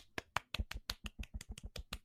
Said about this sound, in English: And you know what? The golf clap goes to not us, the people that have been downloading, listening. Berlin, our most popular city. I mean, yeah, what's up with that? Berlin, golf clap.